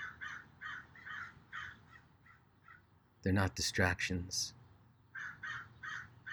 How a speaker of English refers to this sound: With each caw of the crow, you relax just a little bit more.